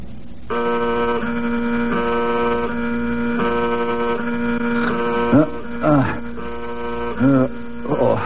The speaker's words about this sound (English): Fire buzzer.